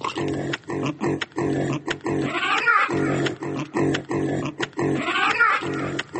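A crowd of pigs at a pig-breeding complex grunts and snorts almost continuously, with occasional higher squeals rising above the dense, noisy chorus.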